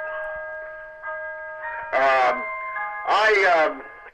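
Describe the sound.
A clock chimes with steady, ringing tones that sustain through the whole moment, while a person talks over it in two short bursts.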